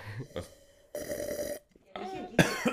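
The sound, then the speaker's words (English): A loud slurping sip of wine lasting about half a second in front of the microphone, followed by a short pause and then several harsh, sputtering coughs right up against the microphone. “What does it sound like when I loudly sip wine in front of the microphone?”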